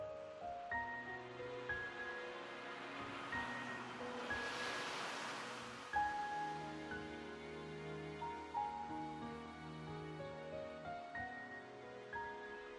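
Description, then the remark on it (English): A soft wash of ocean surf swells and recedes once, mid-clip, blended beneath sustained, gentle musical tones; the waves sound calm rather than crashing. “There are noises, the sigh and drag of gentle waves, the call of seagulls.”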